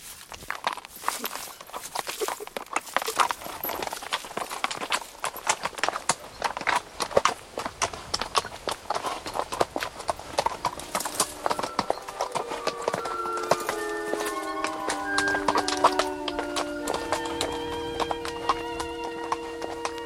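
horse hooves clip-clopping

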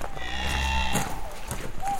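cows mooing

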